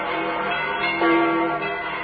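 The church bells of St. Peter's ring continuously, their overlapping tones blending into a dense, resonant wash with a fresh strike swelling in midway. No voices are heard.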